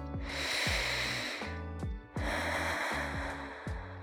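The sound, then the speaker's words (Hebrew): Two long, steady breathy hisses, the slow rush of air being blown out through the mouth, with a soft bed of low tonal music pulsing underneath and no talking. “ונשוף את האוויר לאט לאט מהפה.”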